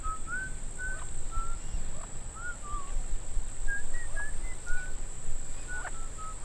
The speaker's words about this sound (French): Et vous entendez cette voix? Oui, c'est sifflement. Bah, c'est peut-être un oiseau. Ça m'étonnerait. Trop élaboré. En tout cas, ça vient de l'intérieur de l'île.